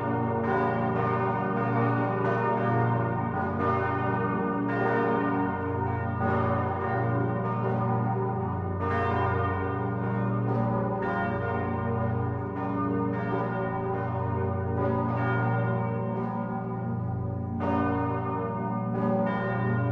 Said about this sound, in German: Auch eine der Glocken, die in feierlich ernster Mollstimmung läuten, ist dem Ziehvater des Christuskindes geweiht.